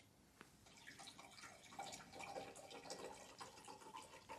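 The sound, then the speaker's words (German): Medium sparkling mineral water pours steadily into a glass, a continuous bubbly trickle with small splashes that rises slightly in pitch as the glass fills, with no talking. “Darf ich dir direkt zu Anfang schon etwas zu trinken anbieten? Gern. Ich nehme Medium, Wasser.”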